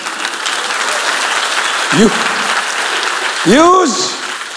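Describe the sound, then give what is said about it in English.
A church audience claps steadily in a dense, even wash of applause for several seconds, with a short vocal whoop partway through and a longer rising-and-falling cheer near the end. “I can see some BMW fellows are not clapping because you came alone.”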